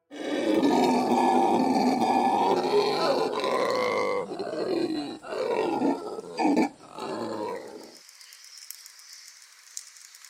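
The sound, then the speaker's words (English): Deep, throaty roars of howler monkeys high in the jungle canopy at Manuel Antonio fill the air in one long, rolling chorus, surging and breaking into shorter bursts before fading to a high, hissing insect drone of the forest. “From the heights of the canopy, howler monkeys live up to their name with a racket that resonates through the jungle.”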